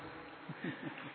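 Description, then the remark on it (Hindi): A voice imitates a mosquito's whining buzz near the ear at night, with the lights off as someone gets ready to sleep: a quiet, nasal hum that rises and falls in a few short swoops, like an insect drifting close and then away. “देखिए, रात का टाइम है, लाइट ऑफ हो गई, जीरो लाइट ऑन है, हम सोने की तैयारी कर रहे हैं और मच्छर कान के पास आके गीत गा रहा है, सोच रहा है इसको काटो नहीं काटो, और डर भी रहा है, वो नजदीक भी आ रहा है दूर भी जा रहा है मच्छर।”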